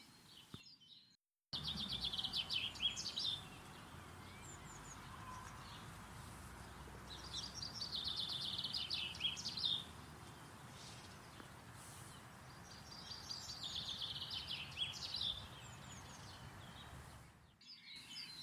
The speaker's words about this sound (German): Weiter geht es nun mit dem Buchfink.